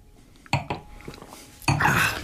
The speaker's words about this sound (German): Dann würde ich sagen, stoßen wir erstmal auf. An, nicht auf. Prost! Zum Wohl.